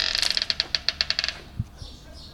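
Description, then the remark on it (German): The handle of the unlocked main entrance door of Mozart's house turns and the latch clicks open: a quick run of about a dozen sharp metallic ticks, followed by two soft, low knocks. No one speaks. “Wow, die Tür ist ja gar nicht abgeschlossen.”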